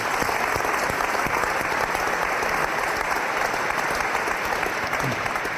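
A crowd applauds steadily, a dense wash of clapping hands that holds at an even, fairly loud level from start to finish with no talking over it.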